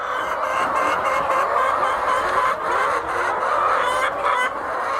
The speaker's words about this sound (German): Geflügelfarmer Augustin Amankwa steht mitten in einem riesigen Stall. Tausende Hühner picken Futter aus großen Trögen. Amankwa ist Geschäftsführer der Amas Farm in der Nähe von Accra, einer der wenigen Geflügelfarmen, die noch nicht aufgegeben haben.